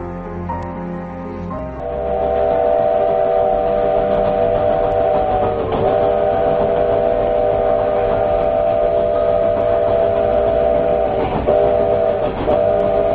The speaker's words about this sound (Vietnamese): Mơ hồ, tôi nghe một tiếng còi tàu, nếu như phát ra từ một đầu máy, thì đầu máy ấy ở rất xa. Đoàn tàu có lẽ kéo cả mấy chục toa, dùng mình chuyển động rồi lăn trên đường sắt.